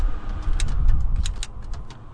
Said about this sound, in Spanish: voy a poner un poco de aire acondicionado, bueno, el aire acondicionado, el ventilador que tenemos aquí. Ay, pero es que si no hace un calor tremendo. Yo sé que vosotros vais a oír un flu de fondo, pero es que si no, aquí hace un calor tremendo.